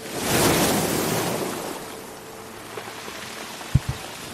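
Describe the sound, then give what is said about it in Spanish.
Gentle, calm ocean surf at the sea cliffs of the Galician coast, Spain, rolls in and washes out. A broad hiss of water swells early, then eases into a softer wash, with a couple of faint low knocks near the end and no voices. “Así suena cuando está tranquilo.”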